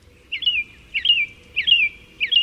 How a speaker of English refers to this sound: It seemed familiar, but she couldn't quite identify it. Was it an American robin?